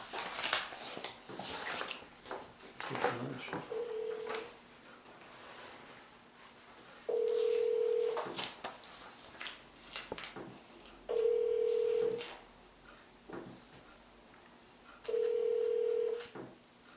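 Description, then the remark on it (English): A telephone is dialed with a few quick clicks, then a steady ringback tone sounds four times at regular intervals of about four seconds. The line stays fairly quiet and nobody speaks. “This may be an office phone too.”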